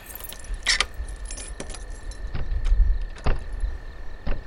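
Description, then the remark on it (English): A bunch of keys jingles and clinks in several quick bursts over a low rumbling background with faint knocks, as someone handles them before opening a heavy door to head in. “Well, folks, I have the keys to the kingdom, and I'm heading in.”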